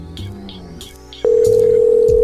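A few seconds of muffled clatter and handling noise give way to a loud, steady telephone dial tone that starts abruptly and holds without a break to the end, as a call is placed to do a sound check before a phone show.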